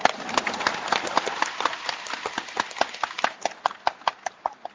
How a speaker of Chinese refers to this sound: 说没有的人鼓掌。